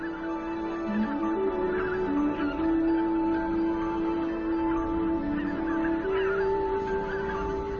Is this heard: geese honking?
yes